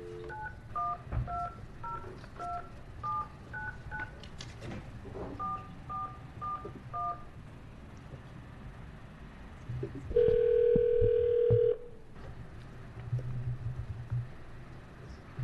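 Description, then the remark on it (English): A rapid string of touch-tone telephone dialing beeps, followed after a pause by a louder, steady dial tone lasting about two seconds, all over a low background rumble with no talking, as a phone call is placed to connect a witness testifying by phone at a committee hearing. “we have one other individual that is going to be testifying on phone while we're getting Mr. Halpert on the phone”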